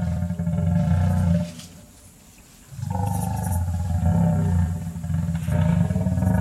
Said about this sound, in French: Voilà, c'était pas l'âne qu'on entendait, c'était le brame du cerf. Brame, voilà. Donc on va l'entendre. Je l'ai entendu plus tard. Voilà, on l'écoute.